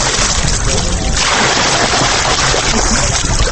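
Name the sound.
people splashing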